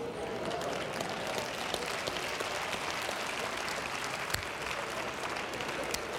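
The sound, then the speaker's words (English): An audience claps steadily for several seconds, a dense, even wash of many hands with sharper individual claps popping out now and then; no one speaks over it. “Still looking and seeing what they think about you clapping.”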